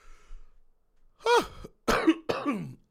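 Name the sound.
coughing and throat clearing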